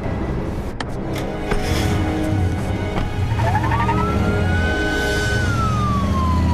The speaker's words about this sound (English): Renee and Jack drive away at speed.